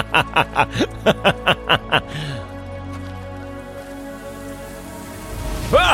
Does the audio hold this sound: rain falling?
yes